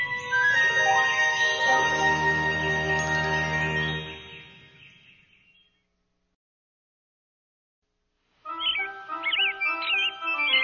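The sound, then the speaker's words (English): Robins, collecting brown grass for a nest, chirp in a lively, warbling burst near the end, clear, after a full, ringing musical tone fades into a few seconds of silence. “The robins are back at work.”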